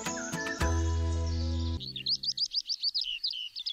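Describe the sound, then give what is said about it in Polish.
A sustained musical chord gives way to a bird singing a rapid string of high, repeated chirping notes, clear, with no voices. “Te właśnie ptaki uznawano za ptaki wieszcze, czy też wieszczące, czyli niosące dobrą nowinę, informujące człowieka o nadchodzącej przyszłości.”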